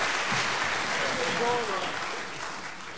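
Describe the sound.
An audience claps steadily for the full three seconds, a dense, even wash of applause with a faint voice or cheer briefly rising in the middle.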